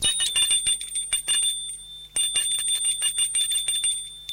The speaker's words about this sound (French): sonne à la porte d'entrée.